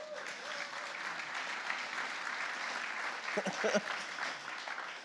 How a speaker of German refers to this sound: Und es gibt tatsächlich 2 lustige Menschen von uns, die das auch machen. Das ist Rainer und ein Applaus.